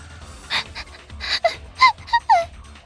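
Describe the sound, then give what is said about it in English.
A dog gives a quick series of short, high-pitched barks, about five yappy bursts, with no one talking. “Woof, woof!”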